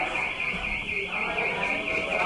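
A door alarm sounds a steady, high-pitched electronic beeping with a rapid warbling pulse that carries on without a break, fairly loud, while low voices murmur faintly underneath.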